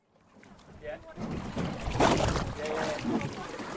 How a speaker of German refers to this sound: Schnorchler beim Sprung von einem Boot ins Wasser vor der Insel Lady Elliot. Die Unterwasserwelt hier im Süden des australischen Barrier Reefs ist selbst für Nichttaucher atemberaubend.